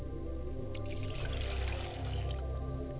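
Liquid is poured as a libation toward the south in a steady, continuous stream for about three seconds, a soft splashing gurgle with no pauses and no voices.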